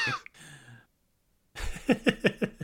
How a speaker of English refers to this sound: That was a good cough. That's a good dust cough.